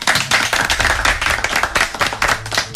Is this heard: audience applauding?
yes